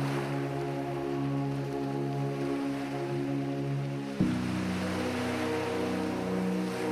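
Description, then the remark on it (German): Steady rushing wash of waves on the open Atlantic Ocean at rising tide in early morning sunlight, loud and continuous, with a low droning hum running beneath it; the tone shifts abruptly about two-thirds of the way through. No voices. “Ins bunte Licht der Sonne getüncht, wirkt das schroffe Meer jetzt offen und friedlich.”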